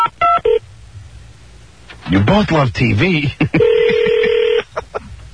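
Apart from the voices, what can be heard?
telephone keypad dialing tones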